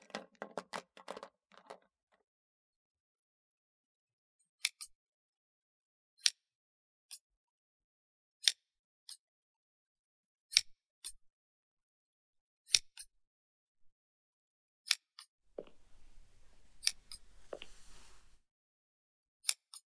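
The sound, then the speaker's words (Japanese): Crisp metallic scissor snips, fairly loud, come in sharp single and paired cuts at uneven intervals, opening with a quick flurry of small clicks; no voices are heard. “いえ、こっちのハサミも捨てがたいですね。”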